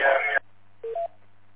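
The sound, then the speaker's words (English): A loud, harsh, distorted, over-deviated DTMF touch-tone burst sent over a radio channel, followed after a brief pause by two short stepped beeps, with a steady low hum underneath. “But I think too, your tones are a little bit over deviated. They're distorted, borderline, mind you, but they are loud.”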